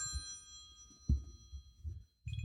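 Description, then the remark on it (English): A phone rings softly with an incoming telemarketer call, holding a steady, high electronic tone over low, throbbing buzz pulses, with a brief thump near the middle. No one speaks. “Why don't you mute your phone when you record, you dummy?”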